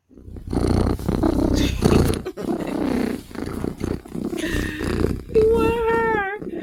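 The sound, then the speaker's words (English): A female cat purrs loudly, a dense rumbling purr that runs steadily for several seconds before a short wavering, tonal cry rises at the end. “If Cat is purring, Cat is a happy, happy girl.”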